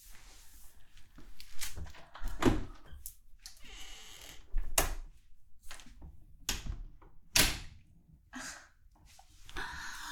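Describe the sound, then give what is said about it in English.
A door is shut and locked: a series of sharp clunks and clicks, spaced irregularly, with soft breathing and shuffling between them and no talking. “Oh, you locked the door?”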